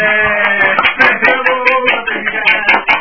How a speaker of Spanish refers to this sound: No, algo que se oiga. Vamos a aplaudir.